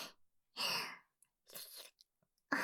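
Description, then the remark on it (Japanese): Loud crunching as someone bites into and chews a frozen ice pop, a new flavor of Baribari-kun, three distinct crunchy bursts separated by short pauses with faint small clicks between them, no talking. “仕事、こんなに忙しかったら、アイスでも食べないとやってらんないよね。”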